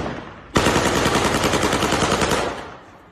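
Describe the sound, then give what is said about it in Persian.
A rapid burst of automatic gunfire fired into the air by a person in Bakhtiari clothing in Izeh, loud, with dense repeated shots lasting about two seconds before fading into echoing reverberation. No one speaks. “به نشانه وجود افراد مسلح در ایزه، شخصی با لباس بختیاری تیراندازی هوایی می کند.”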